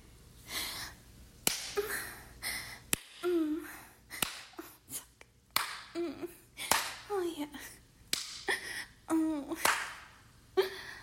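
Sharp, crisp slaps of a hand on a woman's genitals, about eight of them at a steady, unhurried rhythm, with breathy vocal sounds and soft murmuring in between.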